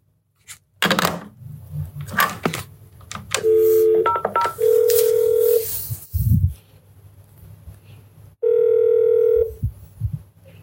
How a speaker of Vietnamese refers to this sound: Lúc này thì đã là 6 giờ chiều, sau khi nghe tin tất cả hành khách trên cùng chuyến bay đã được thả về nhà rồi thì mình mới quyết định gọi điện xuống Lễ Tân lần cuối để làm một cú chốt hạ.